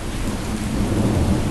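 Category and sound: nature, rain and thunder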